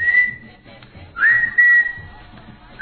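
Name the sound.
whistled melody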